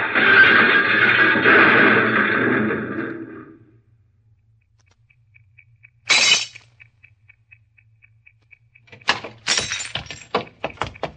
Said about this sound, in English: Suddenly it swerves toward the curb, smashes into the rear of a parked car, and comes to a stop on the sidewalk.